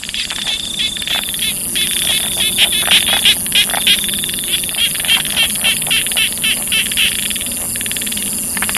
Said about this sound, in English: And ears you never knew you had, tuned to Charlie's War, to the sounds of a jungle night in Vietnam as you lay in ambush, listening.